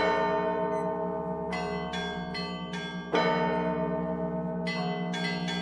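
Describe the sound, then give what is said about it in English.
Students ring tower bells from Moscow at Lowell House in a traditional peal for guests from Russia, rich overlapping strikes sustaining and layering into a continuous shimmering wash, with fresh strokes breaking in every second or so; no voices. “The students performed a couple of traditional peals for special guests from Russia.”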